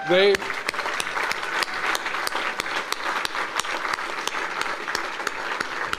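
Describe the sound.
An audience breaks into sustained applause, a dense, steady wash of many hands clapping at an even loudness for several seconds, with a brief bit of voice at the very start.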